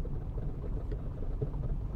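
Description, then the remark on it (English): A car rolls over a cobblestone street, producing a steady, low rumble with uneven bumps and faint rattles running throughout, and no voices. “if you're hearing this rattling, that's those are the cobblestones on the streets. Because remember, I'm in the car.”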